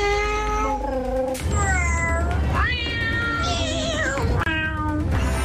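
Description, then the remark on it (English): Several drawn-out cat meows sung to a tune in a birthday song for Mr. Plops, layered over a steady, loud musical backing with no breaks, the meows rising and falling in pitch like a melody. “Plops, we have written a song for Mr. Plops' birthday and it features all of you.”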